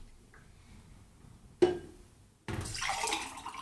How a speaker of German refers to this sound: Wir machen kein Pipi, sondern wir schütten uns gegenseitig Wasser in Gläser. Ja, wir trinken Wasser, tatsächlich.